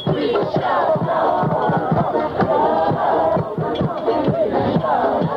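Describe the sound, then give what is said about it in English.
Anti-war protesters, a crowd estimated in the thousands, chant and shout together at a demonstration outside the White House in Washington against the president's decision to attack Iraq. A steady, loud roar with rhythmic bursts of voices rising and falling across the whole stretch, no single speaker standing out. “Even as the president spoke, there was a demonstration taking place outside the White House.”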